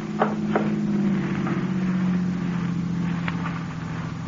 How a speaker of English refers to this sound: car coming. Better douse these candles.